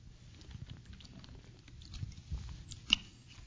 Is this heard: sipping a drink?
yes